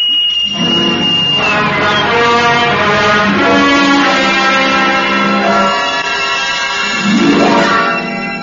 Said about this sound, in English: It wasn't long before my father began to regret that I'd been given a whistle. It held a growing fascination for me, and I was seldom without it, whether out of doors or in the house.